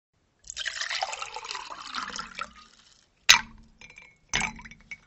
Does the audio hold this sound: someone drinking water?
yes